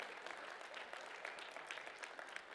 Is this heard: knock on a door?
no